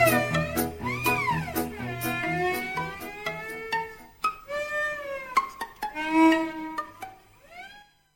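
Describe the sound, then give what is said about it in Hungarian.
Several drawn-out, rising and falling meows repeat over a busy musical backing with a steady low bass and sharp percussive clicks, fairly loud throughout. “Csuda zenekar, cincog, nyávog, a lagziba a táncok csak erre járod.”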